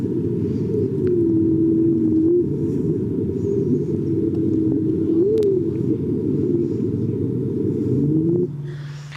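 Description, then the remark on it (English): A whale call sped up ten times, heard as a continuous low, rumbling drone with a wavering, gliding tone on top. It is loud, with no talking. “So this is what a whale sounds like, sped up 10 times.”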